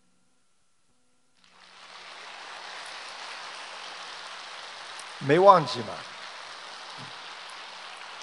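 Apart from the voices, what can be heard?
audience applause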